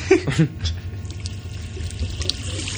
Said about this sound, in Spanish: Primero el chorrillo de pipi, de la cisterna y tal.